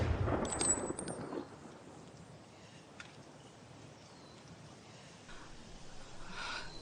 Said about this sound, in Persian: آماده هدف شلیک، آماده هدف شلیک، آماده هدف شلیک.